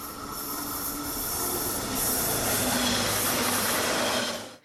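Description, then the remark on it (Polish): A train pulls away, its steady rumble building slightly as the wheels squeal and grind against the rails. The sound is loud, with no voices, and cuts off abruptly. “przez Włochy, Belgię, Holandię, Niemcy, Austrię, Anglię, Chorwację, Francję, Hiszpanię, Szwecję, Słowację, Portugalii i Węgry, odjeżdża z toru Weszło FM.”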